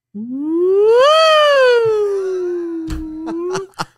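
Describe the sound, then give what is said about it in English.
A person vocally imitates the siren of an old slick-top Chevy Caprice police car with a flip-down visor, driven in 2004: a single long, loud wail that sweeps up in pitch, then slowly sinks, held for about three seconds before a few clicks at the end. “Holy and the alarm the siren went like this.”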